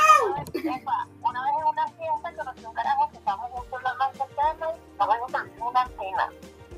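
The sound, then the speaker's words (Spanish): A person mimics a cat, making a string of meow-like vocal sounds with swooping pitch, fairly loud, one after another with short pauses between them. “¿Quién anda ahí? ¡Un gato!”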